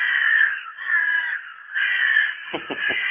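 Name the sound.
carrion crow cawing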